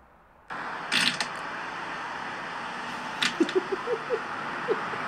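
A string of short, low, squeaky fart bursts made by a man in a video sputters out in an uneven rhythm over a steady background hiss, preceded by a couple of brief rustling noises.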